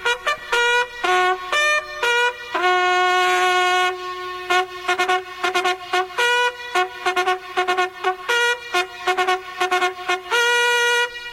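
A bugle sounds a military call alone: loud, bright brassy notes in quick repeated bursts broken up by longer held tones, jumping between a few pitches in a steady marching rhythm.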